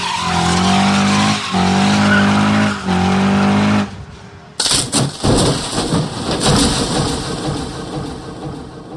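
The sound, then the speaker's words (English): Race car engines and tires screech loudly for several seconds, then a brief lull gives way to a sudden violent crash and a long, noisy rumble of wreckage and roaring motors. “And if you think it's fun watching two football players run into each other head first at 20 miles an hour, how about 20 cars crashing into each other at 180?”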